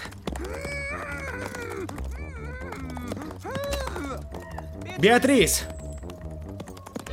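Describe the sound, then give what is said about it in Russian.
A ridden horse gallops through a forest, its hooves in a quick, steady rhythm of sharp clops, running beneath loud tonal music and wordless vocal sounds, with a brief louder burst near the end. “Конь, я сделаю вид, что умею на тебе ездить, ладно?”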